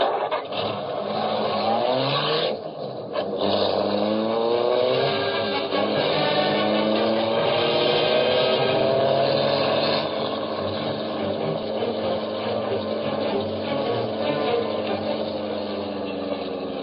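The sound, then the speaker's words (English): A car engine roars steadily, its pitch climbing and shifting as the vehicle accelerates and speeds along without letup in pursuit of another car, with no voices over it. “There, car of men we follow.”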